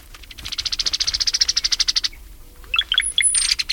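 Brown-headed cowbird calls: a fast, rattling chatter of rapid notes, followed by a burst of liquid gurgling chirps and a thin, high whistle, clear with no talking.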